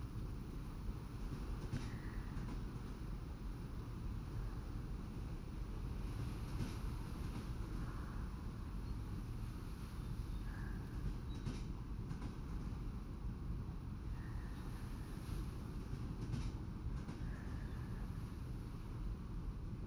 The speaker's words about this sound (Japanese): 列車の音やさざ波の音に耳を澄ませて、ゆっくりゆっくりお眠りください。